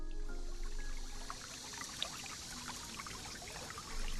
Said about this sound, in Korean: 세미원에 들어서자마자 시원한 기운이 감돕니다. 울창한 숲 사이로 시냇물이 흐르고 있네요.